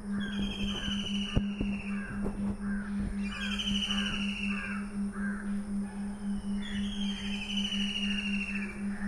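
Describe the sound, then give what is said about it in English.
A busy chorus of crows cawing back and forth, harsh repeated calls overlapping from several birds, over a steady low hum in the background. “All these birds communicate right now by making sounds.”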